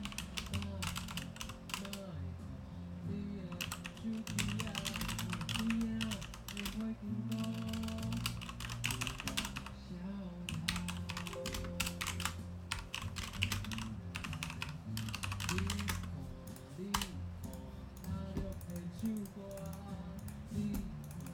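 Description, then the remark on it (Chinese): Rapid, continuous clacking of a computer keyboard, recorded by a microphone hung in mid-air on a mic stand about 20 to 25 cm from the mouth and farther from the keyboard, with dense bursts of keystrokes over a steady low background hum or music throughout. “现在是第三个收音的位置，那它是一般实况组常会用的，就是把它吊在那个麦架上面，那挂在半空中，那相对的它是距离嘴巴算不会非常远，大概也是差不多20到25公分距离，但是它离键盘的距离会比较远一点，那大家可以听听看这样子收音的差别。”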